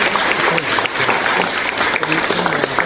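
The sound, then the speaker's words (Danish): A crowd in Frederikshavn Municipality claps steadily for the Faroese local association's 25th anniversary, a dense wash of many hands without a break, fairly loud throughout, with faint voices mixed in beneath the applause. “Skal vi ikke lige klappe af færøerne?”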